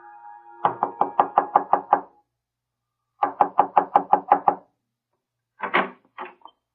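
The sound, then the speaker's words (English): Firm knocking on the wooden front door of Judge Prohl's house: two quick runs of about eight raps each, separated by a pause, then a shorter, looser cluster of knocks at the end. “When he turns in at Judge Prohl's house, he squares his shoulders, and before he knocks at the door, he straightens his tie and removes his blue felt hat.”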